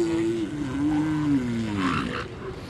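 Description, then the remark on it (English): A female elephant seal's rejection call, given when a male accosts her and she refuses him: a sustained, wavering bellow with a strong low tone that bends and rises, loud, ending in a harsher, noisier rasp. “The last call you'll hear quite frequently is what we call a female's rejection call.”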